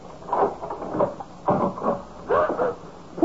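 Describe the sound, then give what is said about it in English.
A door is opened: a few short creaking, rattling bursts of the latch and hinges in quick succession, with no voices. “I'm about to open the door.”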